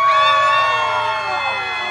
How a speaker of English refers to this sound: With real and paper megaphones at the ready, anti-Trump activists let loose with what's called primal scream therapy, a way to release pent-up frustration.